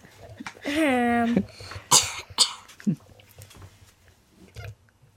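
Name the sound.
child coughing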